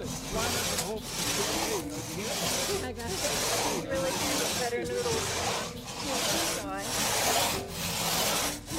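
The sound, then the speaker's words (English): A crosscut saw rasps steadily through wood in a regular back-and-forth rhythm, about one stroke per second, fairly loud, with faint voices in the background, as participants in a crosscut saw certification training grab saws and work together. “I think we're ready for you guys to start grabbing saws and working together.”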